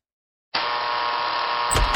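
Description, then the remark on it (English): An electric door buzzer starts abruptly and drones steadily for over a second, then a sharp metallic click of the lock releasing cuts in just before the end. “Sorry, there's just something about the sound of a buzz, then the click of the lock on a door.”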